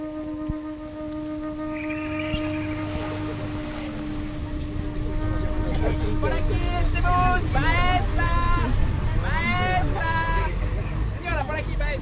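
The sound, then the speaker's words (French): Steady rumble of a bus engine with road noise on a ride away from Quito, Ecuador, descending mountain roads toward the forest, while passengers chat in the background; voices rise and overlap, growing busier over the ride. “Passant d'un bus à l'autre, je m'éloigne de Quito, dévalant les montagnes, filant vers la forêt.”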